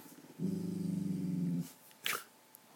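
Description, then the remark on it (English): Chloe the dog growls low and steady for just over a second, fairly loud, while looking out the window at people outside, followed by a short sharp huff or snort after a brief pause. “Chloe is not growling at the pterodactyl. She's just Chloe. She's looking out the window, and there's people out there running around, walking their dogs and stuff.”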